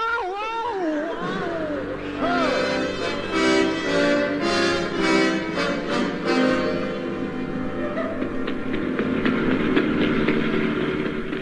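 A car engine drones steadily while driving, rising in pitch at the start, then holding a loud, buzzing, harmonic roar with slight surges throughout.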